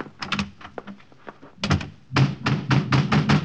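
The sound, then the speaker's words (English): Heavy fists pound on a wooden door in rapid, insistent bursts, with lighter knocks in between, growing louder and more frantic toward the end. Booming, with no voices. “Open up!”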